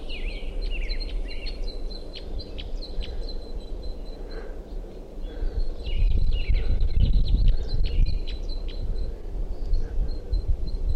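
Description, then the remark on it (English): A bird in a tree calls repeatedly with sharp, high chirps and short trills throughout, set over a steady low rumble of wind that swells midway. No one speaks. “Still calling. Stop. Sorry, calling him underneath the tree here.”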